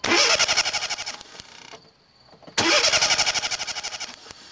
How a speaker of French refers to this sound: Sur la place du village, Bernard essaie de faire démarrer sa voiture, sans succès.